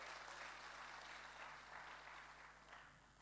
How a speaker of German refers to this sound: Herzlichen Dank, Applaus für dich.